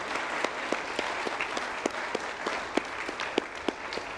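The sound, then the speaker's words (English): An audience at an awards ceremony applauds steadily for people finishing up, a dense wash of many hands clapping with a few sharper, louder claps standing out at irregular moments throughout. “So our final award, let's go ahead and give them another round of applause as they finish up.”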